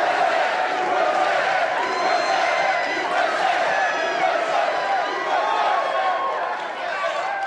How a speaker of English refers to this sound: USA. Crowd is loud, ain't it?